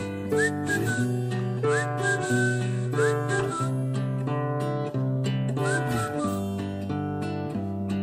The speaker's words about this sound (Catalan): sinó que, a més, volia recuperar la companyia d'un xiulet.